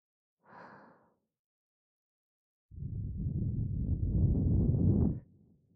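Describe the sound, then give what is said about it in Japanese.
A short soft breath is drawn in, then after a pause a long, airy exhale blows right against the microphone with a rushing, breathy texture before fading out. No one speaks. “吐息を浴びるたびに徐々にリラックスと脱力が広がっていくの感じて。”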